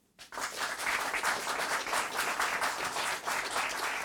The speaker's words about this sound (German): Das ist Ihr Applaus.